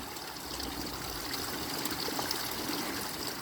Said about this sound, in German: Lass dich mitnehmen vom Fluss des Wassers.